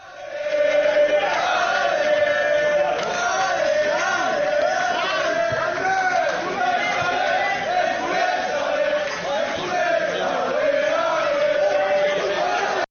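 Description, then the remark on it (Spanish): A large crowd of travelling Hércules football supporters chants and cheers in unison at the Sabadell–Hércules match at the Nova Creu Alta, having travelled over 1000 kilometres round trip from the Rico Pérez; a loud, steady, sustained roar of many voices with rising and falling sung phrases throughout. “Esos son los herculanos que ayer se desplazaron más de 1000 kilómetros entre ida y vuelta que separan el Rico Pérez de la Nova Creu Alta”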